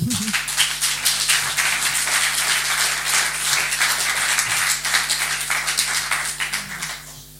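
An audience applauds steadily for several seconds, a dense crackle of many hands clapping at a fairly loud, even level before tapering off at the end.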